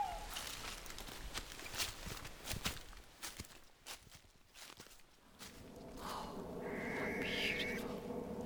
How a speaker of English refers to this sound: That was a barn owl, and we heard the amazing call that gives them one of the other names, a screech owl. There it is. Like that, it's calling back.